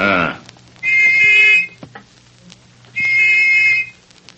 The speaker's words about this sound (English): took the little brass whistle which he had received from the dying government agent from his pocket. At frequent intervals, he blew it.